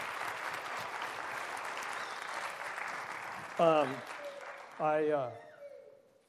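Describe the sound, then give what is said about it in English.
Steady audience applause for a group of people fills the first few seconds, a dense wash of clapping that fades out as a couple of short, louder spoken exclamations break in near the end. “Give them all another round of applause.”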